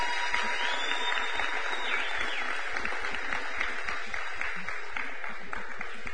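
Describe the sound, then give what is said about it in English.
Sustained applause from a church audience as the children and youth are dismissed out the back for Kids Church and youth group, a dense, steady wash of many hands clapping at once for about six seconds, with no voices standing out above it. “You're dismissed out the back end with a big round of applause.”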